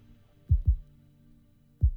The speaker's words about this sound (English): Notice it sounds like a heartbeat.